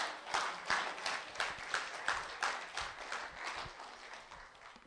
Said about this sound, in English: I think we better clap.